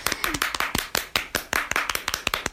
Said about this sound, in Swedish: Ja, jag skulle göra en liten applåd, men du var så snabb där.